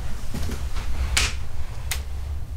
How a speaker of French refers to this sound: La porte qui s'est ouverte devant moi, mais je me demande si c'est juste qu'elle tire pas en fait. Ouais. Là, je l'ai refermée.